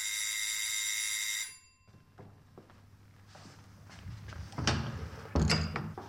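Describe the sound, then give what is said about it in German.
A loud, steady electronic doorbell rings at the door of a shared flat for about a second and a half, then stops abruptly, followed by footsteps and the clunks of a door being handled. “Kaum wird ein Zimmer in der WG frei, dauert es nicht mehr lange und es klingelt an der Tür.”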